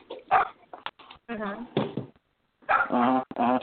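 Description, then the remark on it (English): A dog vocalizes after hearing the words Scooby-Doo, in a series of short, whining, yodel-like bursts separated by brief pauses, fairly loud and with no other sounds around it. “I make a joke, I didn't get a laugh, the dog laughs because I said Scooby-Doo.”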